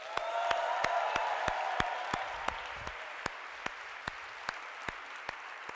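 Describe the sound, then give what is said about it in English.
A crowd applauds on camera for a departing colleague, clapping steadily for several seconds, the dense clapping easing slightly toward the end, while sharp, evenly spaced clicks tick through it at a regular rhythm. “So if we could clap for her on camera, we will play this back for her later.”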